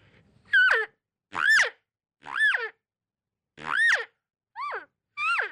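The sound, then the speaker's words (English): Six short, whiny cow estrus calls blown on a game call by vibrating the lips with the call, each a buzzy, quavering note that climbs then slides down in pitch, spaced by brief pauses with no talking. “If you wanted to get a little estrus call sound in it, you can kind of vibrate your lips with the call a little bit in front of it and get a little estrus sound.”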